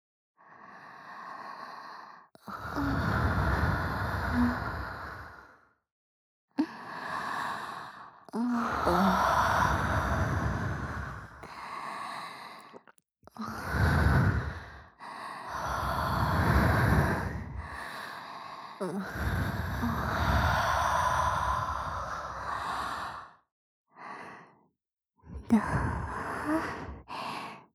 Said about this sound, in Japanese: 生温かい吐息吹きかけられるの好き。なんだか興奮しちゃうね。